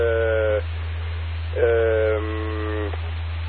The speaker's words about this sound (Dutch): Al een beetje net de microfoon vooruit en dan gaat de telefoon weer.